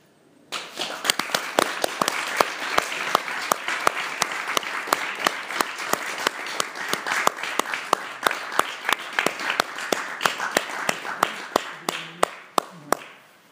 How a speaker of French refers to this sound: Puisqu'on en est au temps des applaudissements, peut-être qu'il faudrait un concert à la CIPN, qui est un acteur de poésie.